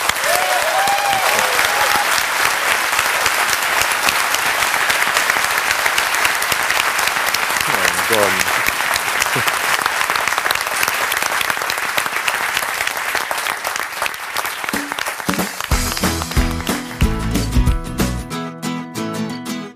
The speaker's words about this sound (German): Freue mich über die rege Diskussion und nochmal ganz herzlichen Dank und jetzt mal großen Applaus für euch.